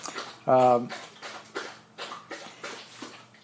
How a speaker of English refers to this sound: My dog, he always does this during, almost always does it during my Wednesday talk. I don't know why he does it, but there he is. There's my dog drinking water.